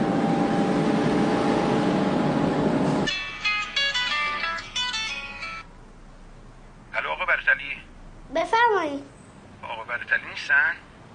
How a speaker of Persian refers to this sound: پس موبایلش دستی شما چی کار میکنه؟ من اومدم کانون دادم موبایلش رو میز داره زنگ میخوره.